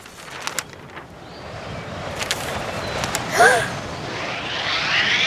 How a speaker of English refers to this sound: It's very windy today.